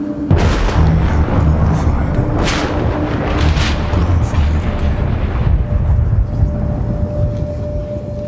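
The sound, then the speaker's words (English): A loud, deep rumble like thunder rolls on for several seconds, swelling with a few sharper cracking bursts early on before settling into a steady low roar. “Strange thunder.”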